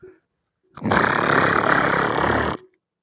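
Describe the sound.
A voice imitates chirping crickets with one loud, steady, raspy buzz lasting nearly two seconds; it comes out harsh and noisy, more like a hissing machine than distinct chirps.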